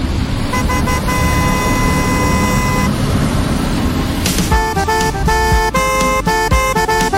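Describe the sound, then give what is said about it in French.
A loud car horn honks out a melody, holding sustained tones before switching to a quicker run of short, shifting notes over steady traffic rumble. “Ça rend bien le klaxon quand même.”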